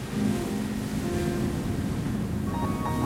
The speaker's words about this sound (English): I hear the sound of the waves breaking, the rumble, and I can see the landscape full of rocks in the moonlight.